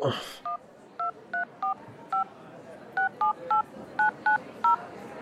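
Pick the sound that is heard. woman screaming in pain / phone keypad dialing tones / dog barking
phone keypad dialing tones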